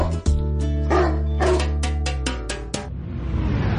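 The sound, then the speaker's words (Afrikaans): A dog barks several times in short, sharp bursts over a steady musical backing, the barks loud before fading into a softer hiss at the end, in an advert for the Brendan Piper Trompie Jassie dog jacket. “Vir die hond wie se blaf net so groot is as sy byt.”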